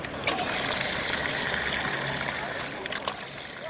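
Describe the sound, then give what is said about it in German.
Water splashes and trickles steadily from the Font de Canaletes, a small public fountain on the Rambla de Canaletes in Barcelona, a continuous bubbling wash with faint voices murmuring in the background. “Sie verdankt ihren Namen einem kleinen Brunnen, dem Font de Canaletes.”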